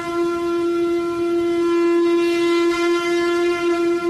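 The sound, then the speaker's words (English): A loud horn sound effect, called the "Jew horn" on a radio show, holds one steady, low-pitched, buzzy tone for about four seconds without a break. There is no talking over it. “Can I get a Jew horn?”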